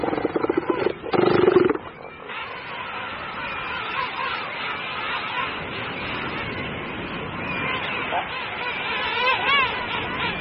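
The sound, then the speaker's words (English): A crowded beach colony of gigantic elephant seals and king penguins, the penguins returning from a fishing trip and crossing the beach: a loud, throaty roar bursts out near the start, then a steady din of overlapping bellows and squawking calls continues. “But first, they must cross a crowded beach, threading their way between gigantic and bad-tempered elephant seals.”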